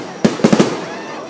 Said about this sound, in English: how do you feel watching these fireworks